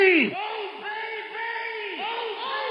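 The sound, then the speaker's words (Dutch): Several voices shout and yell together in a loud, continuous burst, rising and falling in pitch with no pause, like an agitated crowd. “Heer Olly zelf had geen weet van het geschreeuw en de tonelen die zich om hem afspeelden”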